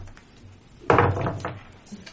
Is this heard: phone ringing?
no